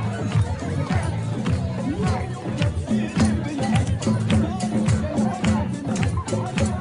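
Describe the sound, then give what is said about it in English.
A large crowd claps in a steady, driving rhythm around a large group of college students dancing in a large circle, over loud, lively Middle Eastern-style music, with a dense wash of voices and festive noise throughout. “I mean, what you see on the video is a large group of college students dancing in a large circle and a big crowd around them clapping and stuff.”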